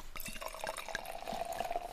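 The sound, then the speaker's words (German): Sparkling wine pours steadily into a glass, a bright fizzing, trickling sound with small splashes and a rising tone as it fills, heard alone without talk. “Da reiche ich doch glatt mal mein Sektglas und nehme vorher noch ein Stück, gell?”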